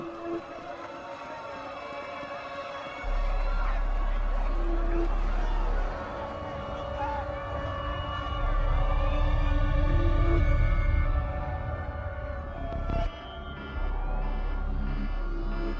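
An emergency alert siren sounding a threat notification wails in steady, layered, sustained electronic tones with slight pitch bends, joined by a deep low rumble after a few seconds that swells midway and briefly drops out near the end.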